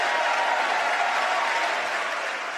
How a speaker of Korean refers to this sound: 새해 국정연설은 이처럼 대통령의 발언을 찬성하는 의원들의 박수로 연설이 중단되는 경우가 많은데요. 물론 대통령의 연설 내용에 동의하지 않는 의원들도 있겠죠. 그럴 경우 박수를 치지 않는 것으로 의사표시를 하기도 합니다.